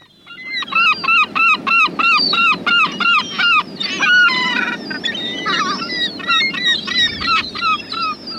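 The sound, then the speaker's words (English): Herring gull calls ring out loud, a rapid series of yelping, laughing cries that grow more ragged and overlapping toward the end, with no talking. “Herring gull is a familiar sight of our seaside towns, particularly during the breeding season.”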